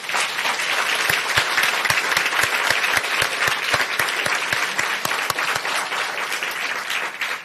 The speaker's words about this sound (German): Und zwar sind wir heute in Drez. Und ich glaube, die Drezer spendieren uns jetzt nochmal einen kräftigen Applaus.